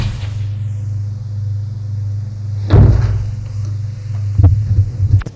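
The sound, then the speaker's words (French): A door thuds shut partway through over a steady low electrical hum, followed by a couple of softer clunks and rattles near the end; no one speaks. “Un bruit de porte.”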